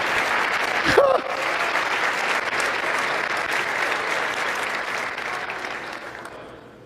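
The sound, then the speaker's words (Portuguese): An audience applauds the Lord, clapping steadily in a dense, sustained wash of applause, with a brief vocal exclamation near the start, holding loud for several seconds before gradually thinning and fading out. “Quem entendeu, por favor, aplauda ao Senhor.”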